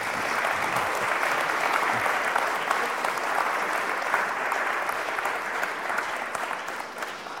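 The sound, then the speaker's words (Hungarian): An audience applauds steadily for about seven seconds, a dense, even wash of many hands clapping at a fairly loud level, easing off slightly toward the end with no voices over it. “Gratulálok, köszönöm, ez egy tapsot megérdemel.”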